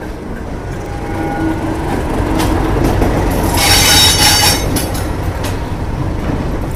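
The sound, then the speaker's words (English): A train rumbles steadily along the Bowness and Kinneil heritage railway line during its Diesel Weekend, coming back after taking people up the line; its wheels let out a bright metallic squeal midway through over the continuous low roar of the carriages. “We're just waiting on one of our trains coming back, which is just taking people up the line, and then we're going to be heading off very shortly”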